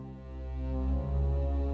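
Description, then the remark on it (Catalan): Main theme of George Fenton's orchestral film score: a deep, sustained chord from low brass and strings that slowly swells in loudness, with no voices. “George Fenton va compondre la música d'aquest film, una banda sonora que, alhora que és d'una gran qualitat, s'ajusta com un guant a les imatges.”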